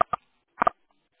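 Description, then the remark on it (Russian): Short electronic beeps on the other party's end of a telephone call: two quick blips, a half-second pause, then a tighter double blip, each clipped and tinny, with silence in between and no voices. “Да, да, что-то у вас там пикает просто.”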